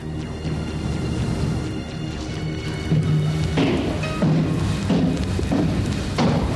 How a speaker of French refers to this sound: Écoute, il y a d'autres pas.